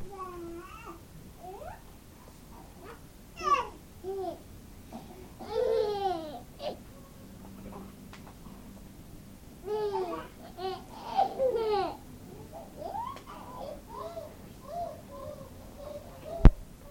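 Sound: baby babbling and cooing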